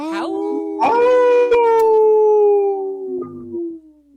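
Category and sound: animal, wolf howl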